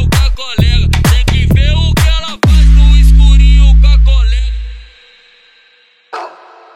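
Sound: dog barking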